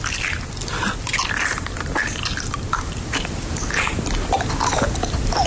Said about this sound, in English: This is an example of ASMR. On the internet at the moment. This is someone chewing honeycomb.